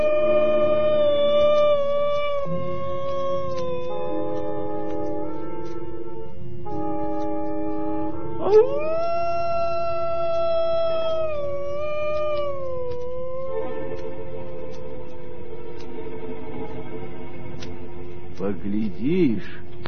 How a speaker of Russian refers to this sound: За большим сугробом показался голодный серый волк.